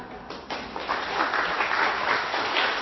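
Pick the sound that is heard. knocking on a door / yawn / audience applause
audience applause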